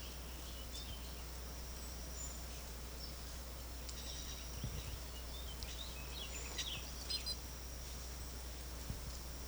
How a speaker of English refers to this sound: Wildbird, greenback bird. Wildbird. Wildbird.